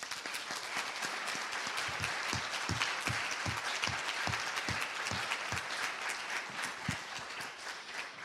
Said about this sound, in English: if you were excommunicated in the past, which we need to do a clap for these women who have gone through that.